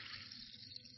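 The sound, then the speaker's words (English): Champagne poured into a glass fizzes, a soft, steady crackling hiss of tiny bubbles, fairly quiet, with no voices over it. “Can you hear the bubbles, man?”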